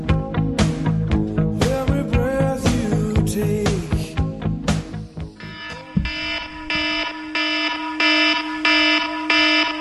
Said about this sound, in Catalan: Han sentit l'alerta? Pues tots l'hem recibida. Els nostres telèfons han recibit un comunicat que ens deia lo següent. Davant de l'episodi de fortes pluges se sol·licita que romanen a les seues cases en punts elevats